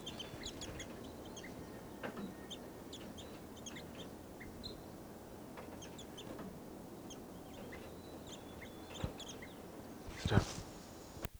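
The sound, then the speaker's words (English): Many birds chirp and call in quick, scattered high-pitched bursts over a steady low rumble, with a brief louder rush of noise near the end; no one speaks. The birds are around a truck, one male sitting down and a female perched on the truck's antenna. “I got the birds.”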